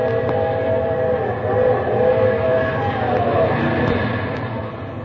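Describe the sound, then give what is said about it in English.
The whistle of a 3 a.m. train blows in a long, steady wail over the heavy rumble of the passing train, loud and sustained from start to finish with no voices. “That's the 3 a.m. out there blowing.”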